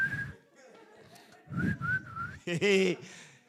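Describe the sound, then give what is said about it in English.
A man carrying a bag whistles a short, wavering tune in a few brief phrases separated by pauses, moderately loud, with a harsher burst of sound near the end. “He's whistling with the bag.”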